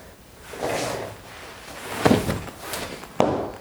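A person tumbles off a chair: a soft scuffle of movement, then a heavy thud and, a moment later, a second sharp bump, fairly close, with no talking.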